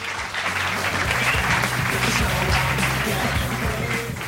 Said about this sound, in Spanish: No es patinaje sobre hielo, pero sí es patinaje sobre ruedas, así que un fuerte aplauso